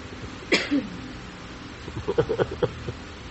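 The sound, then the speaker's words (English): One sharp cough rings out, then after a short pause a rapid string of smaller, choppy coughs follows, fairly loud, with no talking. “Kind of get the idea with that cough, it was neither.”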